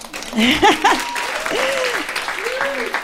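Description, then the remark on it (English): A crowd claps steadily for a few seconds, a dense wash of applause with scattered whoops and cheering voices rising and falling over it, moderately loud and sustained throughout. “You can go ahead and clap for that.”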